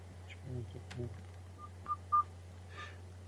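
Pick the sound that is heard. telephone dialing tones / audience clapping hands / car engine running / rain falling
telephone dialing tones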